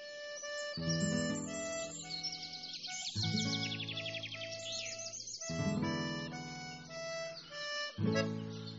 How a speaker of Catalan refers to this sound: I va escoltar el cant d'uns ocells que no havia sentit mai.